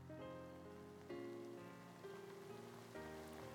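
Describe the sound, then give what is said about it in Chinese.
Steady rain falls in a continuous, even patter, blended with soft sustained musical tones that swell and shift. No one speaks. “啊，下雨了。”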